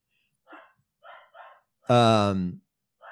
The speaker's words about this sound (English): Is it a cat? It sounds like a dog, actually.